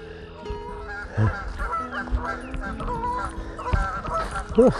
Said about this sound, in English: Two very noisy geese coming into land.